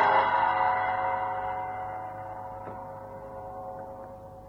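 A single deep gong stroke rings out deep inside a temple building after a silk rope at the door is pulled, its rich metallic tone sustaining and slowly fading over several seconds with a reverberant, indoor quality.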